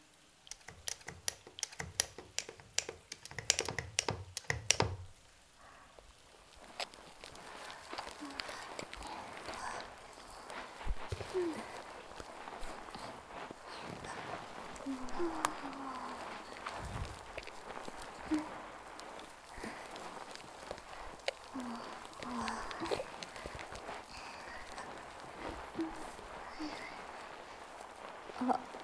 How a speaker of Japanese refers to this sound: こうなったら腹くくった。ボディーソープの音聞かせてあげる。